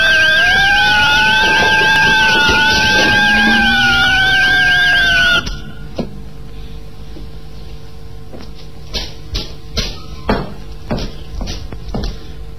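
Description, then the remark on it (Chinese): A home alarm bell, set off as someone comes home, blares with loud, wavering electronic tones for about five seconds, then cuts off abruptly, leaving only scattered clicks and soft knocks. “快关电门，要不警铃会烧坏了。”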